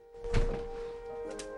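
A heavy knock thuds against a door, one loud dull blow followed by a softer tap, with a steady low electrical hum running underneath.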